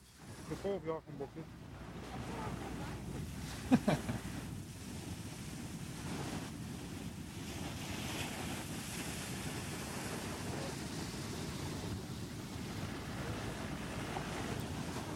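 A large ocean wave surges with a steady, rushing roar as people run from it, heavy wind buffeting the microphone and a sharp crashing burst early on before the churning water noise settles into a constant wash.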